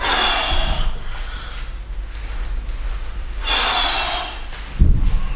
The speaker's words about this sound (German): Wie sensibel ist das Mikrofon? Hört man, wenn ich anfange, schwer zu atmen? Stimmt. Das ist ja das Ziel der Übung hier.